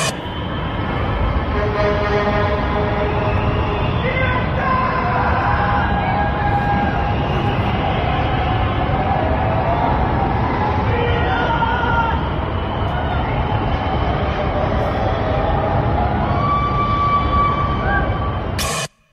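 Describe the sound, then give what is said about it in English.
A loud, continuous crowd hubbub of many people around Melbourne at night, yelling and cheering at once as the last lockdown ended at 11:59, some yelling freedom off their balconies, with scattered high shouts and whoops rising above a dense wash of overlapping voices. “About yelling freedom off your balcony, which means it hasn't truly sunk in.”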